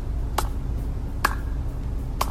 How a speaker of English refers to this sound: Granny giving a slow clap. That's some shade right there.